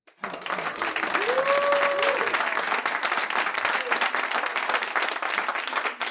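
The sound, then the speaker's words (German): A live audience bursts into sustained applause and cheering, with a rising whoop near the start, the clapping dense and loud throughout the whole stretch. “Aber nachdem wir ja heute Live-Publikum haben, würde ich sagen, ich will mal was vom Publikum hören.”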